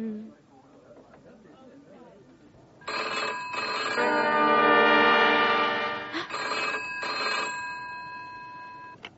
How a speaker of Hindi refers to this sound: hello, हाँ अशोक, अशोक का telephone है,